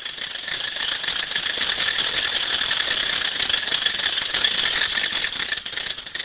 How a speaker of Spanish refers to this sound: Hoy en día, las matracas suenan en las calles mucho tiempo antes de la Semana Santa. Los padres y los abuelos enseñan a los chicos cómo hacerla sonar, y los niños encantados corren matraqueando.